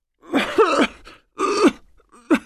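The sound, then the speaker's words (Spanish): Three harsh, raspy coughs from an elderly woman with a winter cold, in separate bursts and fairly loud, the last one short and sharp, with a groaning, throaty quality and brief pauses between them. “Abuela, es mejor que cuides esa tos. No me gusta para nada.”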